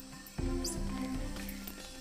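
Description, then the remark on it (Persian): A few brief, high-pitched squeaking calls of a pygmy marmoset, the world's smallest monkey, in the jungle, chirping intermittently over a steady, fuller low-pitched background. “میمون کوتوله.”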